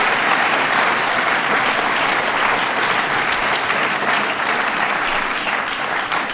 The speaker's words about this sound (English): So can y'all join me in giving her a round of applause?